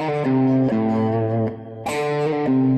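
Distorted electric guitar playing a quick hammer-on pull-off phrase, notes shifting smoothly between neighboring pitches without fresh picking, sustained and fairly loud with no talking.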